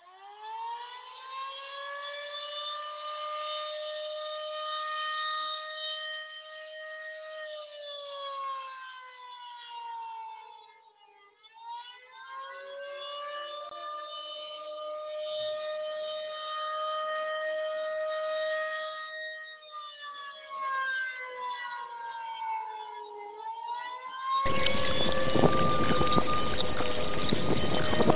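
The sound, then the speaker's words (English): A fruit bat alarm: a wailing siren, its harmonic-rich tone sweeping slowly down and back up several times at steady loudness, then giving way to a loud burst of harsh hissing noise at the end. “My fruit bat alarm, and as you all may know, those of you all who are regulars on this show, sounds a little different.”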